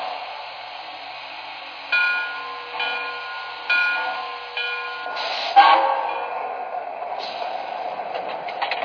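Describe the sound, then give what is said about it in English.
A passenger train from Atlantic City, train number 4218, rolls in on track 1 at Lakewood station, its wheels thumping in a steady rhythm over rail joints amid a broad rushing hiss, followed by a brief squeal and a settling hiss of brakes. “copying from Atlantic City on track 1, train number 4218, the Blue Comet.”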